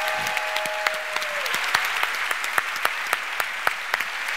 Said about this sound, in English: So if we could all give a round of applause to Gary O'Reilly. Gary.